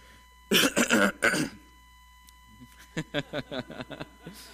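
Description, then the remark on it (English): A man giving a talk coughs to clear phlegm from his throat: three loud, harsh coughs and throat-clearing bursts in quick succession, then after a pause a rapid string of shorter, softer hacking sounds. No one speaks. “No, he just had phlegm in his throat.”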